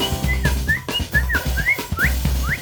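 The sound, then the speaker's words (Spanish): Short rising whistled notes repeat in a quick, playful rhythm, each a bright upward chirp made with the lips, over a steady low musical backing. “Con los labios su silbido.”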